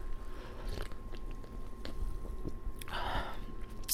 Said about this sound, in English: Anyways, here, hang on one second. Let me just go ahead and take a quick sip. Oh, this is a different drink, by the way.